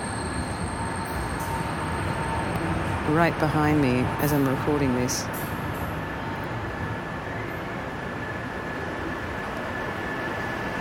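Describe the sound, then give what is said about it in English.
A train rumbles past a platform at Chapelle Station, Capellekirk, in the afternoon, a loud, steady roar of wheels and engine filling the whole clip, while a man speaks briefly over it partway through. “I can hear the sounds so present, and the vibrations of the train.”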